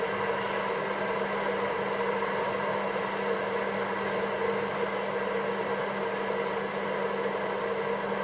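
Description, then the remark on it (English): An electric kettle coming to the boil for tea gives off a steady rushing roar with a faint hum underneath, holding an even level throughout with no voices. “I guess, as they say, a watched kettle or a listened for kettle never boils. But I think this one is about to.”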